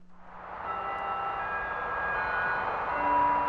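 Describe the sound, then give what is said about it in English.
The chapel bell of the Franciscan Sisters of Perpetual Adoration rings at 2:30, its bright metallic tones blending into one steady, shimmering resonance that holds without pause for the whole stretch. No voices are heard. “As the chapel bell rings 2:30,”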